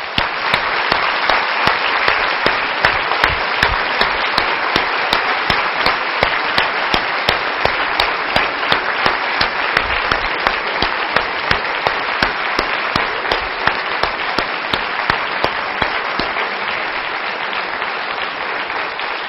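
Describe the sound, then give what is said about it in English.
An audience at a ceremony breaks into sustained applause to honor the sponsors, dense overlapping claps at a steady loud level for nearly twenty seconds, tapering slightly toward the end with no voices. “And we will make this up to our sponsors in some way, but since they will be viewing this videotape, I wonder if you would join me in the usual convention for honoring those who honor us by a round of applause.”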